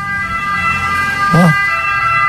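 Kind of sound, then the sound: vehicle, passing emergency vehicle siren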